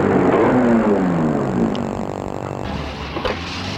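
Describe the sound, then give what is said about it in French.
A car engine hums steadily, its pitch gliding as it moves, then the noise settles down and quiets as the car comes to a stop on the boulevard des Belges in front of a three-story mansion from the last century. No one speaks. “La voiture s'est arrêtée, boulevard des Belges, devant un hôtel particulier de 3 étages du siècle dernier.”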